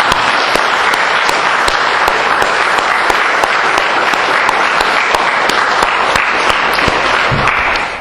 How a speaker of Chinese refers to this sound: 我们是不是可以再一次以热烈的掌声感谢他们的分享。